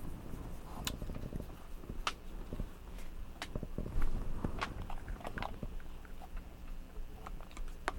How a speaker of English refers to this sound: No, you don't want to chew on it.